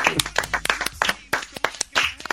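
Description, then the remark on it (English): A burst of applause for a sung and rapped performance: brisk, overlapping handclaps in an uneven, lively patter, fairly loud and sustained throughout the short stretch. “You deserve the applause.”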